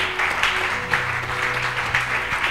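A crowd claps steadily at a Christian worship service, a dense wash of many hands applauding together for a man coming forward to give his life to Jesus, sustained and fairly loud throughout with no voices standing out.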